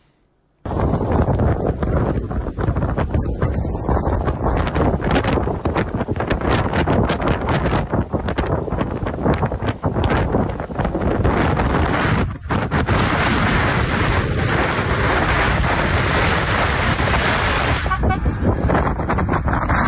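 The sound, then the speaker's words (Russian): Loud, constant blizzard wind roars and buffets the microphone during a snowstorm in the Odesa region of southern Ukraine, a dense unbroken rush of noise with brief gusty dips, and no clear voices. “В Украине сегодня бушует метель, она началась с юга и больше всего задела Одесский регион.”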